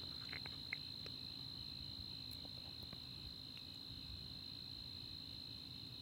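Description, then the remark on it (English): A steady, high-pitched drone of crickets chirping continuously outdoors, with faint scattered clicks and a low background rumble underneath; no voices. “So the crickets are out there, but that's their cricket business. They're singing, they're suffering, actually.”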